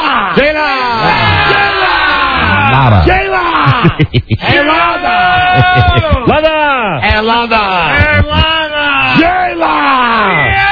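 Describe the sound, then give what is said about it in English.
A group of voices in a studio shouts and yells loudly together for about ten seconds, screaming a woman's name to greet her, overlapping whoops and drawn-out calls rising and falling, energetic, with a brief stuttering break partway through. “And really, seriously, and this is off here, that is how she is greeted whenever she walks into the studio. We scream her name, yes.”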